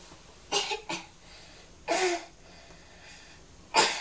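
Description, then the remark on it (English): A young child gives a few exaggerated, forced coughs, spaced out with short pauses, against a quiet background. “are you pretending to have a bad cough?”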